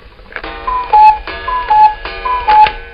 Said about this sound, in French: Un coucou Suisse afficheur digital.